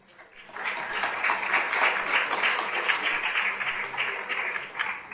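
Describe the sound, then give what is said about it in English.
A crowd at a Hare Krishna talk on the Bhagavad Gita applauds steadily, many hands clapping in a dense, even patter that holds at a fairly loud level throughout, with no voices coming through. “So thank you for clapping.”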